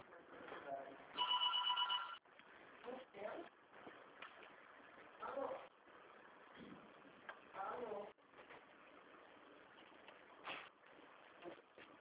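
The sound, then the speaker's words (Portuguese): A telephone rings at the speaker's workplace in a short burst of bright, high-pitched tones near the start, while people talk over a busy, muffled background that continues throughout. “depois eu falo com você que eu estou no meu serviço, eu tenho que atender outro telefone.”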